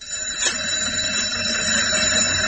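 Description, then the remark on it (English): A school fire alarm bell rings continuously, a loud, steady metallic clangour with bright high overtones that holds unbroken throughout, with no voices. “Yes, probably wondering when you're going to sound the fire alarm.”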